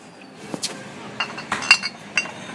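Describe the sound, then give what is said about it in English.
Small glass bottles, for filling from dispensers of coconut oil, apple cider vinegar, sesame oil and tamari, clink together in a handful of light, irregular taps, some with a brief bright ring, over a faint background hum, with no one talking. “And it looks like there's like little glass bottles that you can even put it in.”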